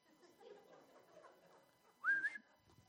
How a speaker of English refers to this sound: As a matter of fact, when I whistle, she comes running.